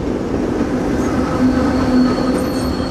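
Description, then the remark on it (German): A subway train, one of several an hour running east to west and back, rattles loudly over the rails with a steady rumble, a thin metallic squeal of wheels rising partway through. No one speaks. “Und hört ihr, wie es quietscht und krächzt? Mehrmals pro Stunde rattern hier die U-Bahn über die Schienen.”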